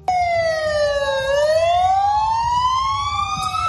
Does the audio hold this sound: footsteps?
no